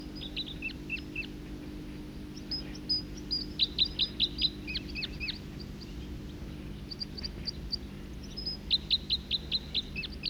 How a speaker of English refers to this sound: Other birds coming in now, song flight of a second bird.